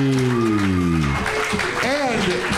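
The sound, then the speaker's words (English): An audience claps steadily for a contestant at a singing competition, the dense patter of applause mixed with loud whoops and shouting voices rising over it. “Clap it up one more time”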